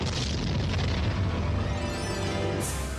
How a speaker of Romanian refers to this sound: Este vorba despre El Cañonazo de las 9, adică lovitura de tun de la ora 9. Dacă vă plimbați prin Havana și la ora 9 seara simțiți orașul că se cutremură, nu vă speriați.